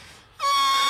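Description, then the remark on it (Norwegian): A voice imitates a horse's neigh: after a short quiet moment it breaks into a loud, strained, high-pitched squeal with rich harmonics, held fairly steady to the end. “Ja, skal du høre hest?”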